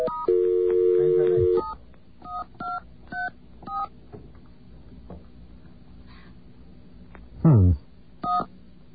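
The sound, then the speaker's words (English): A steady two-note dial tone hums, then stops, followed by four short keypad beeps of differing pitch in quick succession as the last digits of a phone number are entered, a brief falling squeal, and one final beep. “I think I can prove it by just entering the last five digits.”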